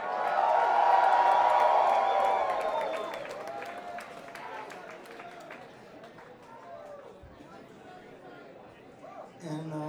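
A crowd in Athens, Georgia breaks into cheers, whoops and clapping for a band, loudest at the start, then the applause thins into scattered claps and murmuring chatter over several seconds.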